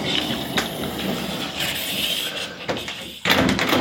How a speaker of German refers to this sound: So, die Tür mache ich mal zu.